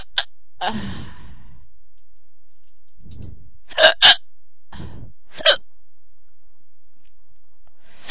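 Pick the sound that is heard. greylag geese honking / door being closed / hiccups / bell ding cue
hiccups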